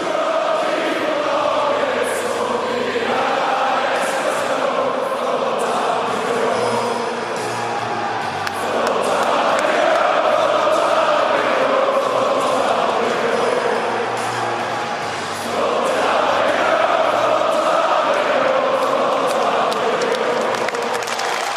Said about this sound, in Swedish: Utan de åkte in, ställde sig runt mittcirkeln och så spelade man hymnen samtidigt som publiken sjung med i den. Så det var liksom ett lite annorlunda sätt att starta matchen på. Vi kan lyssna lite kort på det här.